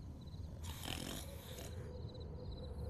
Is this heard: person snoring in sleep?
yes